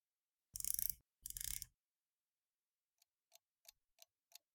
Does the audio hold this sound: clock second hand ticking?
yes